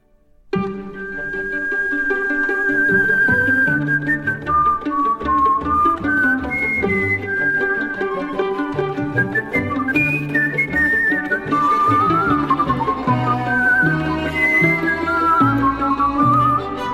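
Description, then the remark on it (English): A bright, agile whistled melody from a film's talent-show scene, with quick trills and gliding notes, plays loud over a full instrumental backing, continuing steadily for the whole stretch with no talking. “the sort of climax of the movie where the sort of meek star of the film stands up and does something for the talent show where he whistles.”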